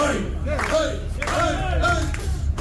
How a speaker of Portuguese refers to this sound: Sim, este concorrente faz como nos Jogos Olímpicos, pede as palmas. Opa, pediu as palmas.